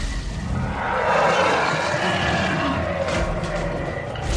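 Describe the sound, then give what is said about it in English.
A loud, sustained T-Rex roar rumbles continuously for several seconds, thick and growling with a slight swell in the middle, heard alone with no talking. “The two took off into the woods, the T-Rex roaring behind them.”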